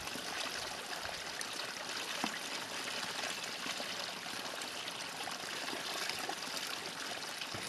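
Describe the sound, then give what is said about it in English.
Spring water from a fountainhead trickles steadily into a carved tree log trough, a continuous splashing babble with an even level throughout and no voices. The water is very clean and extremely cold. “This fountainhead is providing us with very clean water that's extremely cold, really cold”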